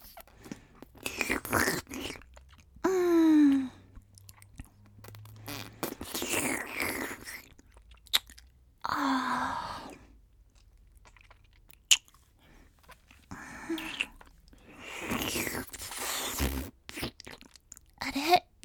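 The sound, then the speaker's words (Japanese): Wet licking and smacking mouth sounds repeat in uneven bursts, moderately loud with no talking, and a brief high voiced sound appears early on. “舐められてるみたい？舐めてるの。”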